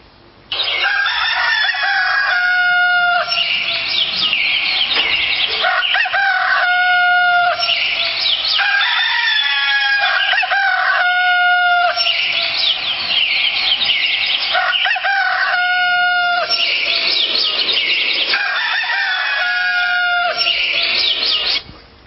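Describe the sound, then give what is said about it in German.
A rooster crows loudly, several long cock-a-doodle-doo calls repeating every few seconds, with no voices. “denn der Hahn kündet vom Morgen.”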